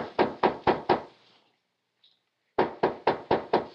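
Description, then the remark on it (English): Loud knocking on the door of a study above a garage: a quick series of five sharp raps, a pause of about a second, then another series of six raps. No voices are heard. “When I got no answer, I tried the door.”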